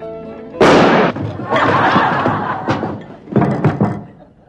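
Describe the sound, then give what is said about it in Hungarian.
Several loud gunshots, fired in the killing of Tom Miglest: a sharp blast followed by a long ringing tail, then a few more scattered shots in quick succession near the end. “Mi ez a lövöldözés?”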